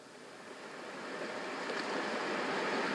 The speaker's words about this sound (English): Ocean Waves with Rain for Massage and Sound Therapy. Natural White Noise. Ultimate Ocean Waves Collection.